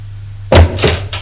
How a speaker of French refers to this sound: La porte est ouverte